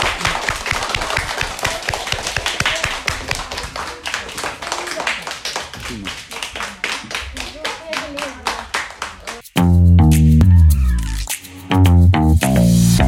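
Brisk, sharp clapping from a few pairs of hands, applause given to school students after they answered questions, rattling along for about nine seconds before a burst of music takes over.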